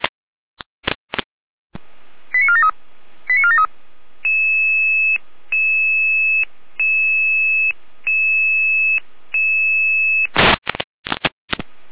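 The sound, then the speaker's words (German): Electronic dispatch alerting tones of a German fire service test call (Proberuf) to Florian Seifert-Rudelstadt, group 6: a few short warbling bursts followed by a steady series of repeated two-pitch beeps in even rhythm, framed by sharp clicks and squelch bursts at start and end. “Jene Alarmierung.”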